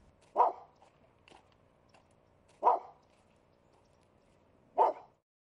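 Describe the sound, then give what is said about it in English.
A small, lame, snaggle-toothed shih tzu dog lets out three sharp, evenly spaced barks about two seconds apart, fairly loud, with faint softer yips in between and no one talking. “it's a lame, snaggle-toothed shih tzu named Molly”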